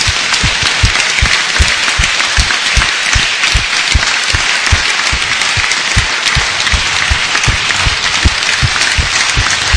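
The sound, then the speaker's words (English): Steady audience applause fills the whole stretch, a dense crackle of many hands clapping at a constant loud level with no pause and no voices. “That deserves an applause, that one.”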